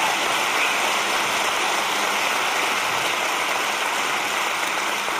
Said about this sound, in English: It's all people. It's all people. Yeah, now you can clap.